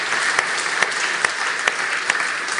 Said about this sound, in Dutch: Nou, God hem maar een keer applaus geven. Dat is mooi.